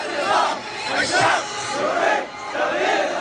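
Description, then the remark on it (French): A large protest crowd in Meissen, southern Iraq, in October 2019 chants slogans in unison, repeating them after a man shouting into a microphone while standing on a car; loud, with rhythmic swells of massed voices rising and falling in roughly four phrases. “Il hurle des slogans que la foule devant lui reprend en chœur.”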